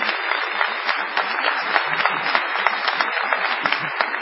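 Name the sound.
audience ovation applause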